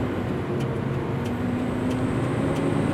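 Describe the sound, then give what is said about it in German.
Steady rumble of a fire engine driving across a city area, driven by a trained machinist with a truck licence, its heavy engine droning low and continuous with a faint hum over the road noise, no siren and no talking. “er hat den Lkw-Führerschein gemacht und ist als Maschinist ausgebildet, sodass er so ein Löschfahrzeug steuern darf”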